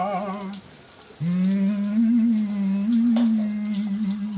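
Shower water hisses and patters steadily throughout, while a man sings long, wavering notes in the shower over the spray, pausing briefly before carrying on.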